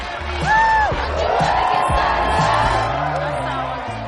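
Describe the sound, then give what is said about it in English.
A large crowd in the stands cheers loudly and steadily at a nighttime high school football game as the band plays and cheerleaders come out, a dense roar of voices with a few rising whoops and shouts cutting through near the start. “… claps and cheers in the stands.”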